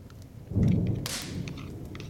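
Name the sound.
thunder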